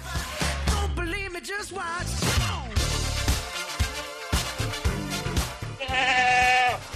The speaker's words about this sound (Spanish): Vaya mañana que me están dando las ovejas